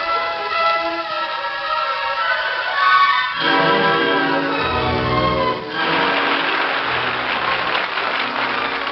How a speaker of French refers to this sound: On applaudissait et pourtant il n'y avait personne dans la salle. Les applaudissements devenaient assourdissants. On aurait dit une fusillade.